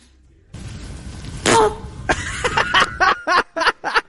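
A long, rumbling fart blends with a voiced, sung-sounding tone, followed by a rapid series of short, sputtering bursts that fade into separate puffs.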